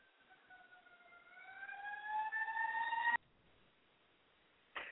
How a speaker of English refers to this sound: I think there's a siren going by